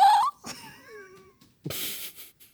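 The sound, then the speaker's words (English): A sudden, sharp gasp of breath cuts in near the end, breathy, after a brief high whimpering sound; no words are spoken. “Why did you gasp?”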